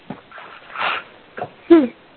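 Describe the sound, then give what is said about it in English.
Someone on a call who has not muted their microphone yawns: soft breathy inhales build to a drawn-out, voiced groan with a falling pitch. The sound is thin and muffled, like a phone line. “Somebody's on and doesn't have themselves on mute. So we're hearing you yawn.”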